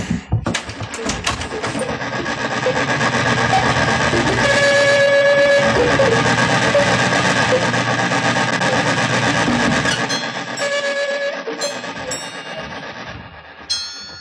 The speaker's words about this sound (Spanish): Las 12:30 de la noche. Una enorme y potente limusina que está provista de cristales oscuros se aproxima por una calle cercana al parque Nacht de Offenburgo. El auto que lleva a Miklos Orgasis es blindado.